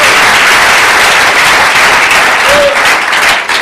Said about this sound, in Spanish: Démosle un buen aplauso al Señor esta tarde. Gloria a Dios, gloria a Dios.